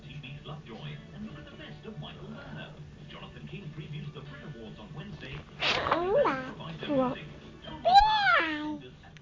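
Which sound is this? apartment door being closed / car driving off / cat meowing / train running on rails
cat meowing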